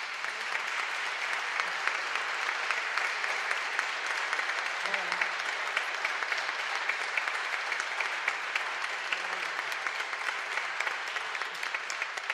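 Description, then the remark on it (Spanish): Sustained audience applause for a flute player, a dense steady patter of many hands clapping at an even loudness throughout, with no voices rising above it. “Un aplauso para ella.”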